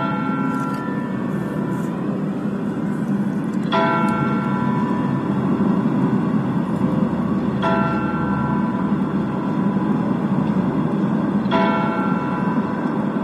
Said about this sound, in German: Mit dem Glockenschlag um 14 Uhr geht der Motorradgottesdienst zu Ende. Wir hören jetzt zunächst die kleine Glocke des Michels, die mit 4 Schlägen die volle Stunde ankündigt.